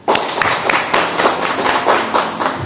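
An audience applauds steadily to welcome a speaker invited to share, a dense, bright wash of many hands clapping at once with a few sharper claps popping out, sustained and loud throughout without any voices.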